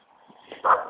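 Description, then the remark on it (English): A small dog lets out one sharp, high yip, preceded by a brief softer whine. No one speaks. “Jeez, it must be Yappy Dog Day.”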